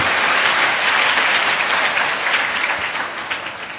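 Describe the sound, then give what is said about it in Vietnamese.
A large audience applauds steadily, a dense wash of many hands clapping at once, loud and continuous before thinning slightly toward the end. “Nếu các cháu đồng ý với khuynh hướng đó thì xin hãy dành tràng pháo tay để lắng nghe các câu chuyện.”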